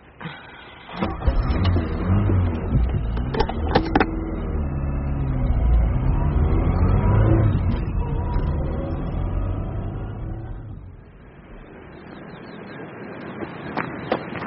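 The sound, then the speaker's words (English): A few sharp clunks as a man gets into his car, parked in a disabled space, then the engine starts up and revs in a loud, steady low rumble that swells, then fades away as the vehicle drives off, leaving quieter background noise. “He's getting into his car.”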